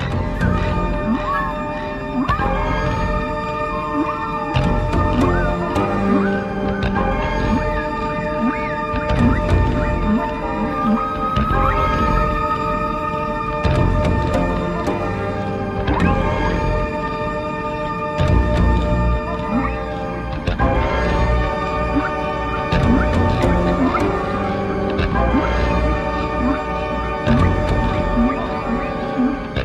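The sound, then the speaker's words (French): A dense, steady musical drone on a record, woven with recordings of long, eerie whale moans and higher dolphin whistles and calls, sustained at an even volume throughout with no talking. “Le disque que nous entendons absorbe largement, comme on peut le constater, des enregistrements de baleines et de dauphins”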